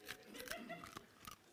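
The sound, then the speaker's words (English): A hard cough drop being cracked between teeth: a few sharp, brittle crunches at irregular intervals over a second and a half, fairly quiet, with no talking. “I'm trying to get this cough drop dissolved.”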